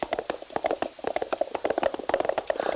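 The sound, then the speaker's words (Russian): Rapid, overlapping hoofbeats of several horses pulling a carriage clip-clop briskly as the horses are urged on, with a faint ringing tone running steadily underneath the sharp knocks. “Карета! Лошадей в карете подгоняют до Гринги.”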